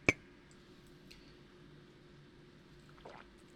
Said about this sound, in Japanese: お酒いただいてます。乾杯。